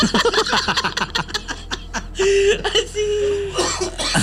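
coughing fit

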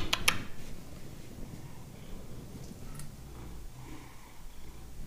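cat purring

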